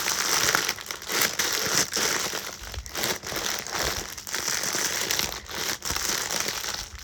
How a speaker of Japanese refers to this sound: これ聞こえてんだろうか、ガサガサ言ってるけど、これ今空気抜いてます。